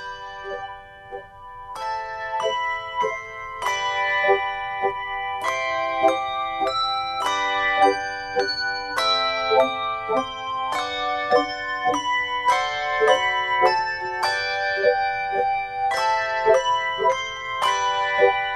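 Handbells played with the echo ring technique ring out a steady melody, each struck note followed by a lingering shimmer so the tones overlap and blend, moderately loud with no voices.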